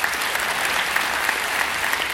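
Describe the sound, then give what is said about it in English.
A crowd claps steadily, a dense wash of many hands patting at once, sustained at an even loudness with no voices standing out. “Give him a hand.”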